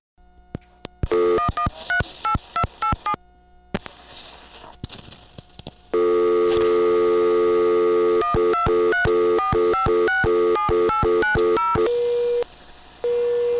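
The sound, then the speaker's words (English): Rapid touch-tone keypad beeps, then a loud steady telephone test dial tone hums on the line during a phone line ring-back test, broken by more bursts of dialing beeps as digits are dialed and a brief drop near the end. “Now, the next thing I'm going to do is I'm going to hit 2, which drops out the dial tone in the background, and I'm going to dial 1, 2, 3, 4, 5, 6, 7, 8, 9, 0.”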